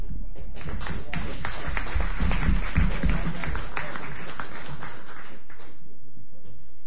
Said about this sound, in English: I always appreciate it when you clap before I start, because nobody ever claps when I'm done.